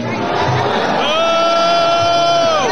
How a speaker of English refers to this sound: She got a big boo. Listen. As far as crowd reaction goes, contrast that big boo with Chuck Schumer. Am I right? I mean, America's mother-in-law got that boo. That was a big boo compared to this.